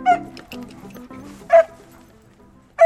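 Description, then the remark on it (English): A puppy named Gio lets out three sharp, high-pitched yapping barks spaced more than a second apart, loud, with softer whiny murmuring in between. “Come on, puppy. Let's go. Good boy.”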